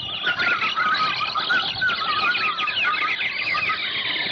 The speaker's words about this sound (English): As we shot, 10,000 parrots and macaws started screaming in fright at the sudden outburst. We stood there surrounded by the din of those parrots. Oh, it was terrifying.